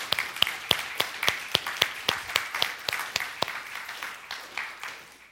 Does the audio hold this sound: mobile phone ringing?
no